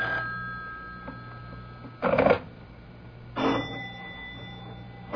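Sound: telephone bell ringing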